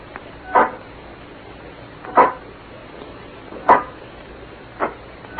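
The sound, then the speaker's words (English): A metal robot with an iron face clanks along as it approaches in slow, heavy steps: four separate resonant clunks spaced a second or more apart over a faint steady background, with no voices. “I can't stand that thing, the way it looks at you with that iron face and clanking around on the crowd.”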